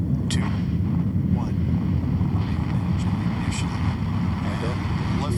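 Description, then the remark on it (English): A Falcon 9 rocket launch roar, carrying the Jason 3 ocean satellite, in foggy winter weather in California: a deep, steady rumble with a broad hissing edge, holding at constant loudness throughout, with a couple of brief crackling bursts riding on top. “Off of the Falcon 9 rocket with Jason 3, continuing the mission for global insight into ocean sea surface height and its effects on our planet.”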